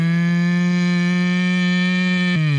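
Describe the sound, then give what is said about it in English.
A person imitates a cow's moo: one long, loud, steady droning note held for over two seconds, then sliding down in pitch at the very end, with no other sounds around it. “That moo is a bit long, isn't it?”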